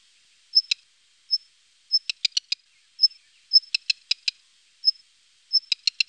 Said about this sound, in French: Les cris du rouge-queue noir sont plus fins et moins sonores.